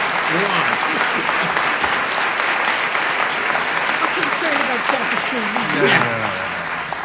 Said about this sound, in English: I think they deserve a round of applause for a tough round of odd man out.